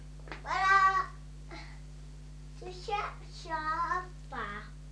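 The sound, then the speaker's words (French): A kitten mews several times: high, wavering cries, the first long and drawn out, the rest shorter, over a steady low hum. “Voilà, petit chat. Vous voyez le petit chat là?”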